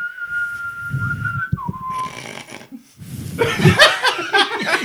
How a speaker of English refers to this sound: You can't whistle with just your lips. That's why you can only make a soft sound.